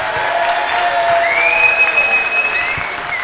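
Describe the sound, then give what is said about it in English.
A crowd applauds steadily with dense clapping to vote for the glittery fedora entry, while a sharp, high whistle rises and holds across the middle of the burst, with a few shouts mixed in. “We got more whistles for that, so I'm going to say that the glittery one should win.”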